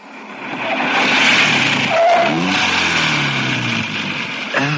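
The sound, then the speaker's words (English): A convertible car drives along with its hood down: a steady roar of rushing wind over a mid-pitched engine whose note rises and shifts as it accelerates, loud throughout with no voices. “It's great with the hood down, but I'm afraid the wind's ruined your hair.”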